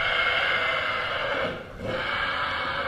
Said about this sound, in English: This isn't always what it sounds like here. This is a horse tied to four corners of a stall from each limb over at Cascade Stables. The horse is getting shoed by one of the blacksmiths, which seems like a brief yet uncomfortable process.